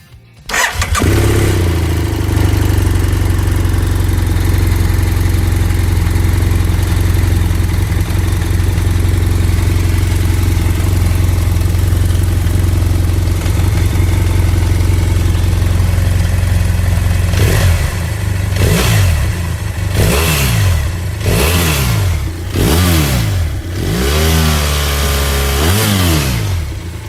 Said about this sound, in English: Was clearly a parallel twin, not a boxer engine, and one of the most fuel-efficient, underrated adventure bikes out there, in my opinion. Yep, it was the F800 GS.